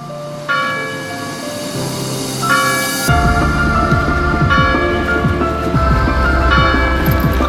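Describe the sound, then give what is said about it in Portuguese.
Church bells in Ferragudo ring out loudly on an autumn morning in overlapping peals, several tones stacking up as more bells join, with a low rumbling hum underneath. “A frescura matutina parece levar para mais longe o queixume das gaivotas, o matraquear das cegonhas e o replicar dos sinos.”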